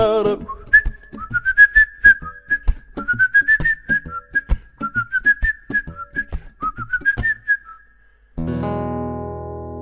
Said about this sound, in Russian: А я на верхней полке буду насвистывать долго этот дурацкий мотивчик. В поезде до теплой Казани.